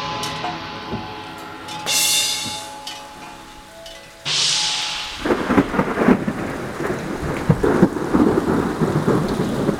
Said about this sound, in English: Well, I don't know. I guess Mekong decided to hit that thunder sheet herself.